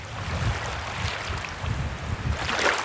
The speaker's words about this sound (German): So klingt Israels traditionelles Wasserreservoir. Der See Genezareth war über Jahrzehnte der natürliche Trinkwasserspeicher schlechthin.